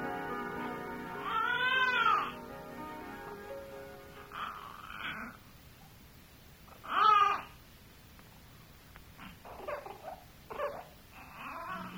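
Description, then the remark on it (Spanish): A newborn baby cries in short, high wailing bursts, one loud cry near the start and another midway, with quieter whimpers and fussing in between and no talking. “¿Estás oyendo, avisita? Uh-huh. Ese llanto es de uno más de nosotros.”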